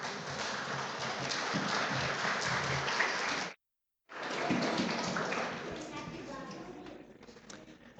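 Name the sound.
audience applauding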